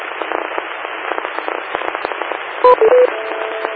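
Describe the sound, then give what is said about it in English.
Crackling, hissy radio static on a TechNet radio net runs throughout, then three quick electronic beeps of shifting pitch ring out in rapid succession near the end, loud against the noise. “Wait for the beeps.”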